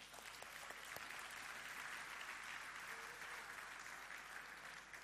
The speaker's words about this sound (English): I don't know about you, but that deserves God a round of applause.